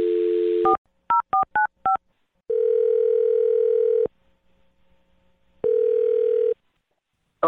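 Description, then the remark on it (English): A steady telephone dial tone cuts off into four quick keypad beeps, followed by two long ringing tones separated by a pause, as a phone number is dialed for a call on the radio show Brooke and Jubal in the Morning. The sounds are clear, with no voices. “There's a slight easterly wind in the air, and I think it is the perfect time to dial the phone number. So let's dial away.”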